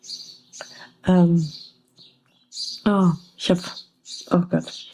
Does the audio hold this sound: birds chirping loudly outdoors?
yes